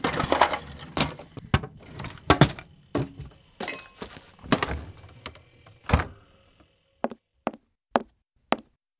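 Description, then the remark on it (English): A busy stretch of wooden clattering as a cupboard door is opened and closed while groceries such as pasta are put away, bumps and thuds tumbling together, then four sharp, evenly spaced knocks after a brief pause. No voices. “Quick, put it in the cupboard.”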